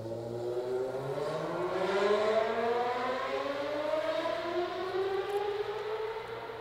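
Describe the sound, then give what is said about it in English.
A loud fire department whistle in Port Ewan, one block away, wails steadily, its harmonic tones sliding slowly upward and then drifting down again, with a low engine-like rumble underneath and no voices. “When that whistle went off, you didn't talk, because no one heard. You're not going to hear me either if I try to compete with that stuff, right?”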